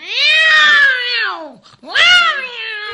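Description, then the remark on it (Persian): Two long, drawn-out cat meows, loud, the first stretching over a second and a half before a brief pause and a second wavering yowl, with no talking. “بعد از مدتی گربه سیاه اونا رو دید، به طرف اونا اومد.”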